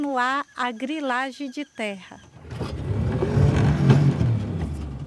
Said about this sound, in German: Mit dem Motorboot geht es über den Rio Jaci-Paraná. Träge und glatt wie ein Spiegel fließt er dahin.